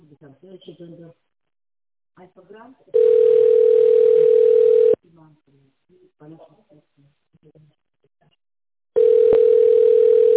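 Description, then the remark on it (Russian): Two long, steady ringback tones on a single mid pitch, each about two seconds, separated by a pause, with brief bits of speech before and between them, while a caller waits on the line to the company Plan Dent Medexpress. “Пожалуйста, наберите добавочный номер сотрудника или дождитесь ответа секретаря.”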